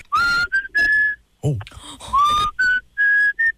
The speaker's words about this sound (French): Vous voulez vous attaquer à ce classique du sifflement.